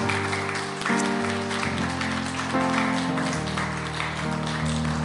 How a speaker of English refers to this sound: Why don't you show your appreciation by giving him a hand clap. Hallelujah.